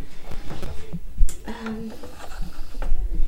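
Kitchen handling: a fridge door opens with a soft thud and rattling shelf contents as a bottle of full-cream milk is lifted out, followed by scraping and clinking.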